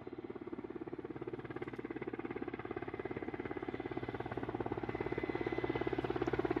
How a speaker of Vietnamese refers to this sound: Gần 8 giờ sáng thì có tiếng trực thăng phong thanh ở đâu đó rất gần.